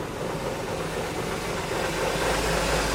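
A bus engine idles before boarding on a rainy day in Białystok, a steady, low rumbling drone with a constant hiss on top, holding at an even level throughout with no voices.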